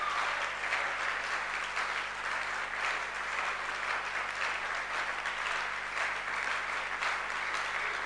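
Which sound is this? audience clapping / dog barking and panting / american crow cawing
audience clapping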